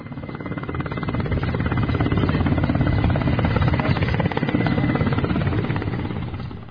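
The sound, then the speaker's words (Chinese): A helicopter flying, its rotor thudding in a fast, steady chop over a deep engine roar that swells slightly and then eases, with no voices; the helicopter carries the Dalai Lama from Leh, capital of Ladakh, to the Zanskar region on the morning of 16 July. “7月16号上午，达赖喇嘛尊者从拉达克首府列城乘坐直升飞机抵达桑斯卡地区”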